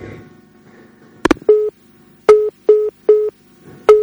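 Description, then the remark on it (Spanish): A clicking handset noise as a caller hangs up, then a repeating phone line tone: short steady beeps with brief gaps, fairly loud, heard alone with no voices. “Bueno, pues buenas noches, nos acaban de colgar el teléfono por última vez.”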